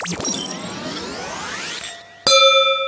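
Wine glasses of Riesling Spätlese clink together in a toast, a sharp strike followed by a bright, sustained ringing tone, preceded by softer sweeping glassy sounds. No one speaks.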